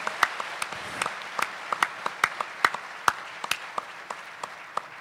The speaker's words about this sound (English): Let's give them a big round of applause right now for everything they did to put this show together.